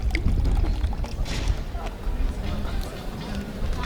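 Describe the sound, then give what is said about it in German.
A fizzy drink, a woodruff-flavoured Brause, pours and sizzles, a steady bubbling hiss with a few brighter crackling bursts, while faint murmuring voices sit in the background. “Und eure Brausen natürlich trinken, ne?”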